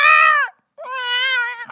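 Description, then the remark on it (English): Two drawn-out, wavering meows, a short one and then a longer, rising-and-falling one after a brief pause, with no talking around them. “I have this cat. Yeah. And I'm holding off the cat.”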